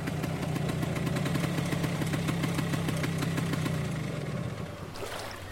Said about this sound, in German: Oh Gott, habt ihr das gerade gehört? Was ist mit dem Motor los?